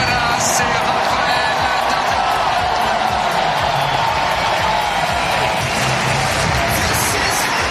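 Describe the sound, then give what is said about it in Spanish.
A large Olympic tennis crowd cheers and applauds steadily throughout as Rafa Nadal and Carlos Alcaraz walk out onto the clay court to face Argentines Máximo González and Andrés Molteni: a dense wash of clapping and shouting with occasional whoops rising above the roar, loud and sustained with no single voice standing out. “Una salida a pista para enfrentarse a los argentinos Máximo González y Andrés Molteni, llena de emoción y bajo la ovación del público que tenía muchísimas ganas de ver a ambos tenistas sobre la arcilla.”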